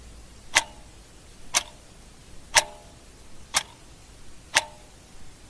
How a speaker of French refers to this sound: Mais sa prédécesseuse, l'horloge mécanique, laisse dans nos esprits un son distinct qui témoigne du passage du temps